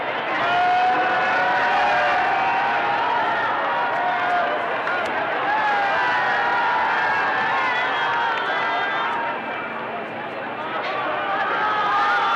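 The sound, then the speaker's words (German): A large crowd lining a presidential motorcade route cheers and shouts continuously, a dense roar of many voices filling the air, with vehicle engine noise faintly underneath as the sound sweeps steadily along. “Und hören Sie nun hier bloß diesen Jubel an.”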